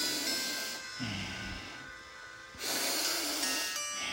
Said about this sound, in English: as you oxygenate your being, you will be in the perfect vitality as just breathing and really oxygenating yourself. It boosts your immune system, so breathe.